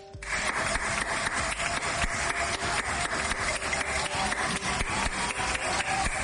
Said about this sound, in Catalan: I aquest so ja ens comença a ser familiar als aplaudiments que la ciutadania està dedicant cada vespre a les 8 al personal que aquests dies està patint la saturació de feina, com són els metges, infermeres i personal sanitari en general, treballadors